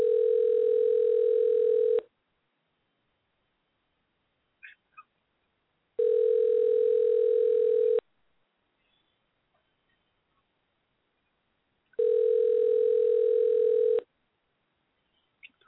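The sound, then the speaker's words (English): An outgoing prank phone call to the caller's brother rings three times without being answered: steady two-second buzzing ringback tones separated by about four seconds of silence, with a few faint clicks in the gaps, before reaching a Sprint voicemail box. “This nigga better answer the phone.”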